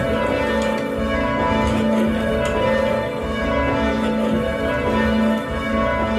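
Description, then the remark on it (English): Church tower bells, rung together by a group of bell ringers, ring steadily and loudly, their overlapping tones blending into a continuous, resonant peal with no voices present. “I really enjoyed learning a new skill, but I've made a lot of really good friends, and so we socialise outside of the tower, as well as doing the bell ringing all together.”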